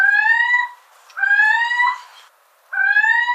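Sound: little owl call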